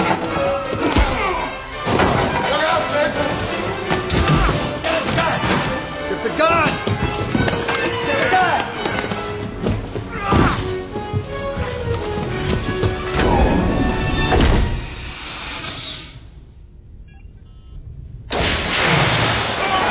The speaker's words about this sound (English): Sorry, the door's a little sticky. Did you see that? I'll get one of my boys up here with a can of WD-40.